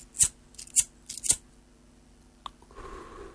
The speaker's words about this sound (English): Oh, the producer's knocking on the window. What are you knocking at?